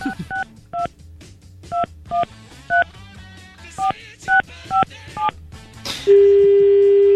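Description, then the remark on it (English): A touch-tone phone number is dialed for a prank call, a wrong number that reached someone in Mississippi: about ten short two-pitch beeps in an uneven rhythm, then a loud, steady, lower tone sounds on the line until the end. “Obviously, I typed the wrong number. We just prank called somebody in, like, Mississippi.”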